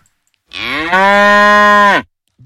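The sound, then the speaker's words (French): A single loud cow moo, a sustained low bellow lasting about a second and a half before cutting off, with silence around it. “La vache.”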